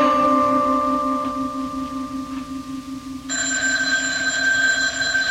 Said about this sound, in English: The phone, it's ringing.